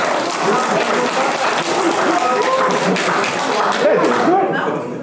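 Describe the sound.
A crowd applauds steadily and loudly for about five seconds, a dense wash of clapping with scattered voices and a few shouts mixed in before it begins to thin out.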